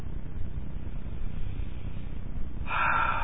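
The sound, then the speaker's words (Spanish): A long, deep breath, a steady airy rush that turns brighter and sharper in its final moments. No one speaks. “Y respirando hondo, ya puedes no desconectarte”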